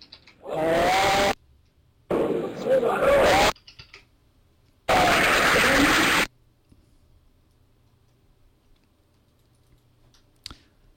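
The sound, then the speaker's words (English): Loud crowd applause for an accelerometer demonstration comes in three dense, crackling bursts, each stopping abruptly, with faint cheering mixed in, followed by several seconds of near silence and a single soft click. “Just crazy applause right now for the accelerometer and the I think there's a lot of developers there thinking about what they can do with that.”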